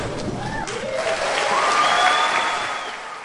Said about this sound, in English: The name of each graduate was read to applause and cheers.